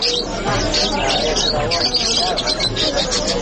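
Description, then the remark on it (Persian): Canaries, small songbirds kept by some Afghans, sing continuously in bright, rapid trills and chirps that fill the whole stretch, fairly loud, with a steady murmur of voices or background noise underneath. “دوستان گرامی، کناری پرنده کوچک و خوش آواز است که برخی از افغانها آن را نگه می دارند.”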